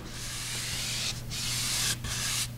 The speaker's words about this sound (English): She grips a small circular disc called a brennen and uses it to press the sheet into the block, transferring the color into the paper's fibers.